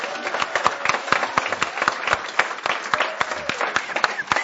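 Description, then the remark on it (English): An audience at a hall applauds the staff steadily, many hands clapping in a dense, continuous patter that stays fairly loud and even throughout, with sharp individual claps standing out. “So if we could take a moment and just give a big round of applause to the staff.”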